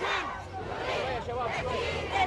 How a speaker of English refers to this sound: But others gathered to co-opt the anti-government chant, "The people want to bring down the government." This version, which sounds nearly identical, translates as, "The people want to support the government."